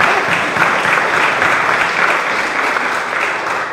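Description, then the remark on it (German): Steady audience applause at a gathering thanking a man whose book sales fund a church renovation: a dense patter of many hands clapping at a fairly loud, even level for several seconds with no voices over it. “Und ich glaube, wir dürfen mal klatschen.”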